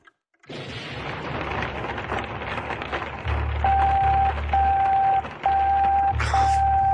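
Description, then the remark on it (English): Steady, dense rain hisses loudly, joined midway by a deep rumbling drone and a repeating electronic beeping tone pulsing over the downpour. No one speaks. “You made it rain,”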